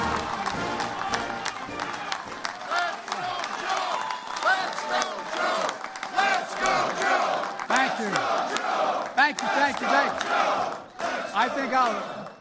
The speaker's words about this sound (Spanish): Entre vítores y aplausos recibían al actual presidente de los Estados Unidos, Joe Biden, en su primera aparición pública tras anunciar oficialmente que sí, que se va a presentar a la reelección el año que viene, en las elecciones de 2024.